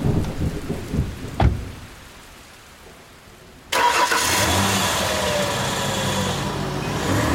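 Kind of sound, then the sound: nature, heavy rain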